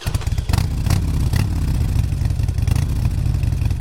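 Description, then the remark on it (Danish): A motorcycle engine idles with a steady, throbbing low rumble and a few brief rattling bursts, loud and continuous throughout, with no one talking. “Og ja, jeg tænker selvfølgelig helt specifikt på brugen af motorcykler.”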